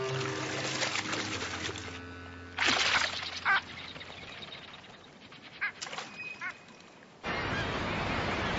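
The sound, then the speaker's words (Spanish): Eider ducks call repeatedly while drifting with the current of moving water, with several short, throaty bursts, followed by a steady wash of rushing water near the end. “a los patos a belda les basta con dejarse arrastrar por la corriente.”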